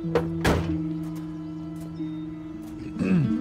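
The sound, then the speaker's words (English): A car door shuts with a single solid thunk as Arturo steps out of the car, over a steady, low engine hum, followed a few seconds later by a softer clunk and a brief rising whine. “Arturo steps out of the car.”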